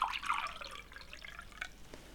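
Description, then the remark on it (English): Liquid splashes and trickles into a glass, a bright, bubbly pour with a rising pitch that tapers into a few drips, moderately quiet. “Have another drink.”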